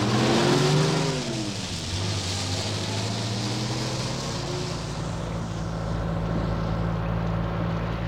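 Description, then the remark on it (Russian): A ten-ton truck engine rumbles loudly along a highway at night in the rain, its pitch dropping as it shifts early on, then settling into a steady droning roar with constant road noise and no voices. “Таким образом, комиссар Мегре покинул приют утопленников в кабине десятитонки, которая с адским грохотом покатила по шоссе.”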